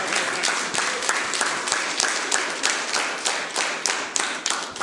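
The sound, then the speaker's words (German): A crowd applauds steadily to welcome a guest, a dense wash of many hands clapping at a fairly even loudness for the whole stretch, with no voices standing out. “Und jetzt heißen wir dich mit einem kräftigen Applaus willkommen.”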